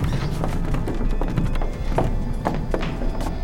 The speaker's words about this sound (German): Stufe für Stufe stiegen die drei die steile Treppe hinab. Sie war aus Holz und bei jedem Schritt knarrte es unheimlich.